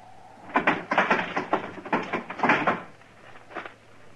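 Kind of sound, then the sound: household object, barn door being opened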